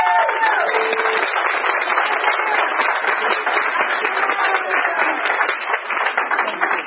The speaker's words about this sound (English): so y'all give her a round of applause.